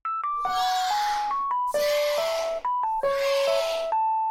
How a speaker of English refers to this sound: So you can listen to this cell phone ring again and again and never quite be satisfied that you truly know it, that you truly understand it. Every time you hear it, you can put the downbeat in a different place and it'll always be right.